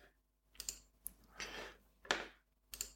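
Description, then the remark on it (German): Quiet, scattered key clicks from a computer keyboard as a sign-up code is typed in, a handful of sharp taps in irregular bursts with a brief soft rustle between them, with no one talking. “So, und jetzt hast du natürlich, weil ich so ein cooler Dude bin, hast du natürlich den Code, den du da voll reinballerst. Code reingeballert, bam.”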